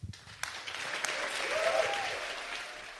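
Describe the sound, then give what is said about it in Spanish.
Sustained applause from a sizable crowd, with a brief whistle-like cheer rising through the clapping midway; dense, steady, and fairly loud throughout, at the graduation ceremony of European astronauts as Spanish astronaut Pablo Álvarez is congratulated. “Entre aplausos y ovaciones, el español Pablo Álvarez, posible sucesor de Pedro Duque, ha dado un paso hacia adelante para alcanzar su objetivo, llegar al espacio.”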